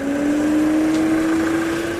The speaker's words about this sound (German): Herrgott, nochmal, muss der jetzt hier langfahren? Muss der so laut sein dabei?